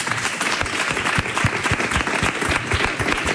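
An audience bursts into steady, dense applause, many hands clapping at once in a continuous, fairly loud wash of sharp claps with no voices standing out.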